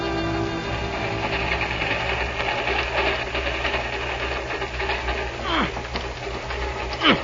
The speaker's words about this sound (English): It looks pretty ancient, all right. Ancient? Why, that train had chin whiskers when Lincoln was in the White House.